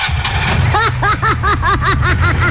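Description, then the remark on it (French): A parked car's engine cranking as it tries to start, with the keys left inside: about eight rhythmic, whining rising-and-falling pulses over a steady low rumble, loud and with no talking. “Je viens de comprendre, ce sont les moteurs qui sonnent comme ça ici.”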